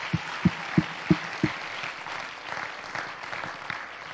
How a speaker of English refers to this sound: Clap your hands for the word of God.